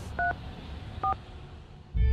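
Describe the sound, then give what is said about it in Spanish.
Two short telephone keypad beeps, each a crisp dual tone, sound about a second apart over a faint background hum, followed by a louder burst of sound at the very end, as a phone number is dialed. “Yo mismo cogí el teléfono y le marqué.”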